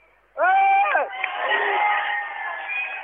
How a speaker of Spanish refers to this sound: Gritos de la manifestación, están leyendo el comunicado.